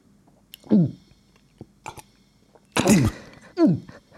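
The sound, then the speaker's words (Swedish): A voice imitates how a woman gulped when drinking: three loud, throaty gurgling bursts separated by short pauses, with a few faint clicks between them and no talking. “Och hon klunkade så här, lyssna.”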